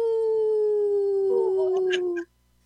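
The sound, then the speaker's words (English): People imitate a wolf howl: one long, loud, steady vocal tone sliding slowly downward for about two seconds, with a few other voices briefly joining before it cuts off abruptly. “I'm not an expert wolf howler yet, but I'll get there.”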